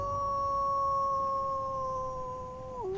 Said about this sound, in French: Il devint fou et poussa un hurlement de loup.